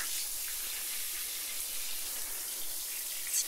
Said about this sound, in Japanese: しっかり地肌の泡まで洗い流して、丁寧に丁寧に。